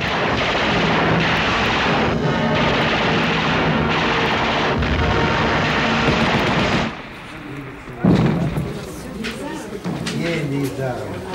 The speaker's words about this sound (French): Des blindés russes sont attaqués par des Stukas.